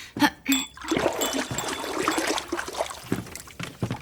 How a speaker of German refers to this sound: befeuchte deine Finger etwas in der Wasserschale.